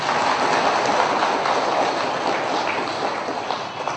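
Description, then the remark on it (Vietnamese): The listening audience at a Buddhist teaching talk claps steadily for about four seconds, a dense, even patter of many hands that stays loud throughout and eases off only slightly at the end, with no voices. “Thì xin mời các vị lắng nghe tiếp bằng tràng pháo tay để thay đổi không khí.”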